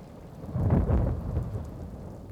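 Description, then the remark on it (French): A single deep thunder clap during a storm swells into a low, rolling rumble and slowly fades, with a steady wash of rain-like hiss underneath and no voices. “J'ai vu les éclairs jaunes au sommet des nuages. Je n'ai plus rien entendu.”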